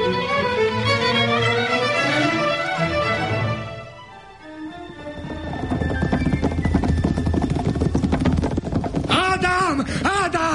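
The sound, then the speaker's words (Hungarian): Horse hooves clip-clop in a steady, quick rhythm as the horses are urged to go faster, fairly loud, mixed with voices and other background sound, and a brief whinny-like cry rises near the end. “Gyorsabban, bírják a lovak. Nagyon jó lovak.”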